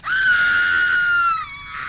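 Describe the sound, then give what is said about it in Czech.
A witch's shrill, sustained scream that slowly drops in pitch before fading out as she falls after a hunter shoots her, loud with no speech. “A když vystřelil, spadla čarodějnice s křikem dolů.”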